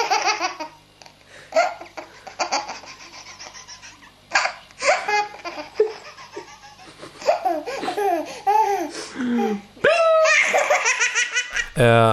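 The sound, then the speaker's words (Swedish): A very tired baby laughs hysterically at its father imitating a microwave oven, in repeated bursts of high, breathless giggles and squeals, loud, with brief pauses between fits that build toward the end. “bebisen är väldigt trött och börjar skratta hysteriskt åt att pappa låter som mikrovågsugnen”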